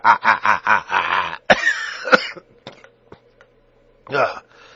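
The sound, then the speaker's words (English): A loud coughing fit: a rapid run of harsh coughs, a few scattered sharp hacks with quiet gaps between them, then one more strained cough near the end. “God, I need to really take a cough drop.”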